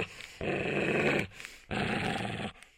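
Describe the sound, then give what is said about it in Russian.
A dog growls in two long, rumbling bursts of close to a second each, separated by a brief pause. The growling is loud, with no voices. “Пес ворчит, ворчит, ворчит.”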